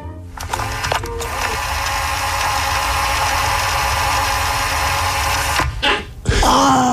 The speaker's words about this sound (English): The cassette rewinding faster and faster and faster until that final thump, and then a whine as it tries to keep rewinding and can't. That's classic.